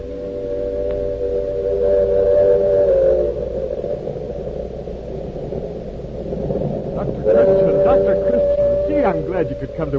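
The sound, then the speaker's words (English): Two long, steady train whistle blasts at a railway platform as a train is due, the first early and the second near the end, ring out over a low rumbling background, with faint murmuring voices mixed in. “Train's due in a minute. Come on down to the end of the platform”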